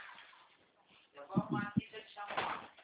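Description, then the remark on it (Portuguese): A door opens or closes with a couple of dull, low thumps, mixed with muffled voices and soft background activity. “Quando eu ouvi a porta dele, eu achei que era o Ariel.”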